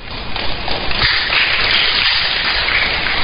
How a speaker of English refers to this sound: I thought you would clap for her.